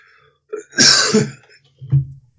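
A single harsh cough with a rough, throaty rasp, followed a moment later by a short low grunt, with no talking around it.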